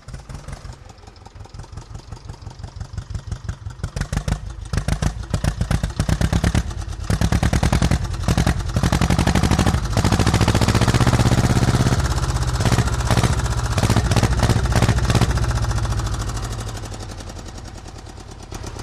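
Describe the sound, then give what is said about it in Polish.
An old red tractor named Danusia cranks and catches on the first try, then settles into a loud, steady, chugging idle with a rapid rhythmic knock that builds and later eases slightly. No one speaks. “Ale udaje się za pierwszym razem odpalić i ładnie gada.”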